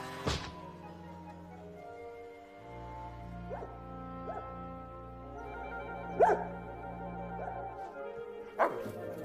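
A Labrador named Jeremy barks a few times outside a house's front door, short sharp barks spaced several seconds apart, with the loudest two near the end, over a steady low tonal hum that runs throughout.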